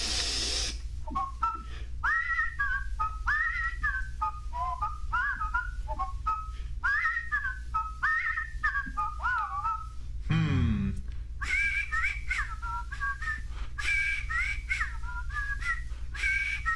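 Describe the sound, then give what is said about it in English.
Two people whistle in turns in a whistling competition, bright wavering melodic phrases trading back and forth, with a brief rustling noise in the middle before the whistling resumes. “I suppose we have a whistling competition.”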